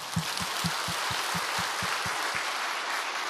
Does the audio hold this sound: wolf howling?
no